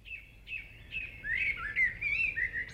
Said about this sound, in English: Back to the small birds that you said, the mavis, the song thrush, that's the repeating one. They tend to sing in sort of trisyllabic songs. They sometimes do four or five, but most often they repeat the note three times.